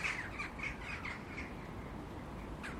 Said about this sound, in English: Aren't those jackdaws wonderful? Isn't this soundy, that cacophony of jackdaws? I mean, crows are great, but they don't flock and call like the jackdaws.